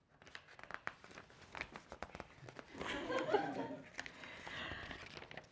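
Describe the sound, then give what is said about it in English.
Paper crinkles and crackles in quick, irregular bursts, swelling into a louder, sustained rip midway through before settling back into scattered rustling and tearing. “What kind of paper is this?”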